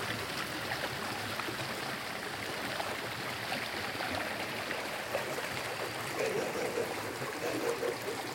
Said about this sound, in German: Wasser fließt, wo man geht und steht, in dem ladakhischen Dorf. Kristallklares Wasser, unter ausladenden Weiden und hohen Pappeln, neben schattigen Wegen, in Kanälen aus Natursteinmauern, in Rinnen aus Lehm und Wurzelwerk.